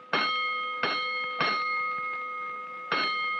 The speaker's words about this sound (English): Hold it, Collins, a third alarm.